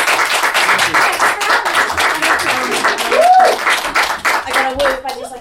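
An audience bursts into sustained, dense applause with many hands clapping at once, steady and loud throughout, with a few rising whoops and cheers cutting through the clapping, voting in a costume competition at the end of a show.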